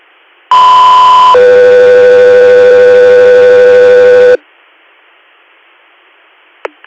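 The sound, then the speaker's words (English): A loud two-tone radio paging alert for Guthrie Air: a short, steady higher tone shifts into a longer, lower sustained tone lasting about three seconds, then cuts off to quiet static and a faint click. “Guthrie Air, standby for tones.”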